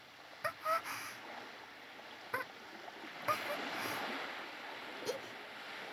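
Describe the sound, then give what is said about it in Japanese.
Quiet, steady wash of ocean waves on a wide beach, a soft continuous rush with a few brief splashes rising and fading, with no voices. “波の音も、なんだか心地いい。”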